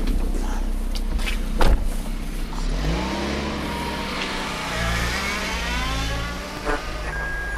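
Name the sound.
car engine accelerating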